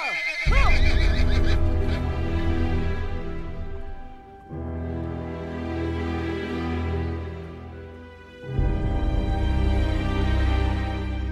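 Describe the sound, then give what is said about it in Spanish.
Restless horses whinny and neigh in repeated loud, drawn-out calls, with faint hoof clip-clops underneath; three long bursts with brief dips between them, and no talking. “Los caballos levantaban la cabeza y olfateaban el aire con recelo. Hacían ruidos extraños y se mostraban inquietos.”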